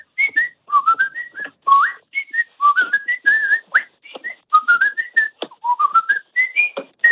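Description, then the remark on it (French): A man whistles a high, bright soprano melody, with continuous rising and falling phrases and quick trills, fairly loud, for several seconds without any talking. “Je vous fais un soprano.”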